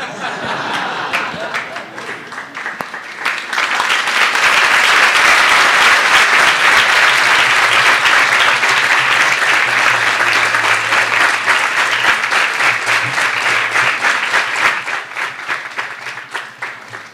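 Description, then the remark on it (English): A crowd at a sadhu sangam spiritual gathering breaks into sustained applause, many hands clapping in a dense, steady wash that swells after a few seconds, holds loud, then gradually thins out near the end. “From your clap, it sounds like you're eager for prasad.”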